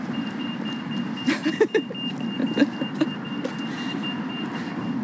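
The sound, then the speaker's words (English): A car drives toward a pedestrian at a road crossing with a steady low engine and road rumble, a few light knocks and clicks over it, and a thin high tone humming faintly throughout. “Oh, there's a car coming towards me, but I'm okay.”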